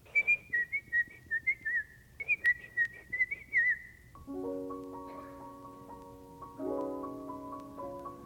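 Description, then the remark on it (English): A person whistles a bright, bouncy call of quick repeated notes, the whistle used to call a little dog named Pan, clear for about four seconds, followed by sustained instrumental chords that take over. “He couldn't get a middle till finally one day he had a little dog, Pan, a silly little dog, who ran away, and Harold had a little whistle for him, and it went like this.”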